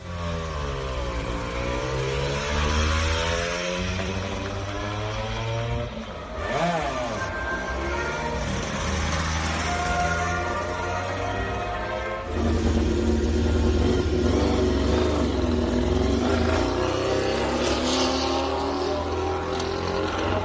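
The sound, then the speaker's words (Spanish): High-pitched Honda MotoGP racing motorcycles of Pedrosa, in his last outing with Honda, rev and scream continuously, with rising and falling pitch sweeps as bikes pass by, loud throughout. “Así suenan las motos de Pedrosa en su último encuentro con Honda.”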